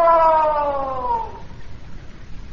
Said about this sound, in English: Sure. It's an echo.